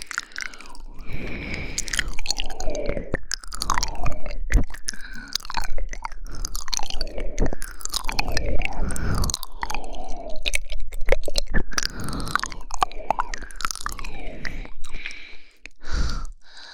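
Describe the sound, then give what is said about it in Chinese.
Ice cubes being bitten and crunched in a mouth, with irregular crisp cracks and crunches scattered over wet, squishy mouth sounds that continue steadily throughout, with no talking. “那如果我还用嘴巴咬着冰块再撩拨你呢？”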